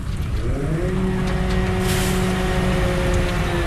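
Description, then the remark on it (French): A heavy garbage truck engine rumbles as it arrives at the Mbeubeus dump, its steady low drone shifting pitch as the vehicle slows and settles, with a brief hiss of air brakes amid outdoor background noise. “Là, il y a un camion qui vient d'arriver.”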